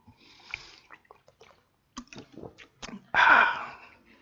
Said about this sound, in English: We'll just take a little moment here. Wipe my eyes. Take a little drink.